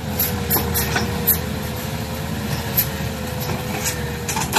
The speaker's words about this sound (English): Cranes scooping dirt in the jungle and chainsaws mowing down trees. China is building so many projects in Laos that it's hard to keep track.